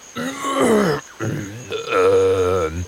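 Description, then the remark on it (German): A voice performs a throat clearing as one of two eating dragons (Fressdrachen) in a story: three drawn-out, gravelly, grunting bursts with a low pitch that wavers and a short pause after the first, fairly loud and with no other sound. “Der eine der beiden Fressdrachen räuspert sich.”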